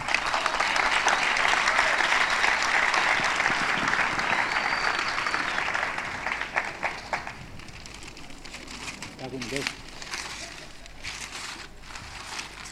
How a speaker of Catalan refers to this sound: Un aplaudiment pel Pep, que ha fet tot això tan maco